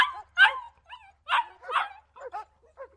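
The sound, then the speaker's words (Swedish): A dog left alone too long barks and whimpers, trying to call its owners back, in a series of short, high-pitched yelps and whines, moderately loud, with uneven pauses between bursts and no one speaking. “som blir lämnade alene för länge och försöker ropa tillbaka sina ägare”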